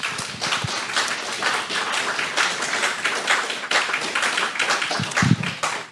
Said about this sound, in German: Vielen, vielen Dank an alle, die hier mitgeholfen haben. Das hat nochmal einen kräftigen Applaus verdient.